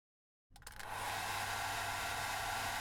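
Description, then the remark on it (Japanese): A hair dryer clicks on after a brief silence and settles into a steady, loud whooshing hum with a low motor drone, drying someone's hair from behind, without any talking. “よいしょっと、ドライヤーつけるね。”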